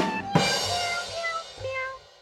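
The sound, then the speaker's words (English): A cat-shaped child's toy keyboard plays synthetic meow sounds, a few bright electronic mews with sliding pitch following one another closely, loud, with no one talking. “brought in a child's keyboard. It's a keyboard, and it looks like a cat, and it sounds like a cat, and it smells like a cat.”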